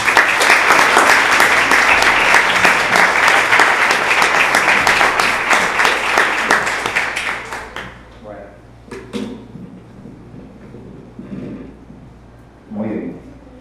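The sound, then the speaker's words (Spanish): Dense audience applause at a book presentation fills the first seven or eight seconds at a steady loud level, then fades out, leaving quieter scattered noises and a few soft sounds. “Un aplauso, por favor.”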